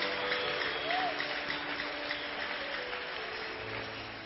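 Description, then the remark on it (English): A crowd claps steadily for several seconds for a man who says he has never abused his wife in 25 years of marriage, a dense, even patter of many hands that stays at a constant level from start to finish, with a faint murmur of voices underneath. “Brother, clap for him now.”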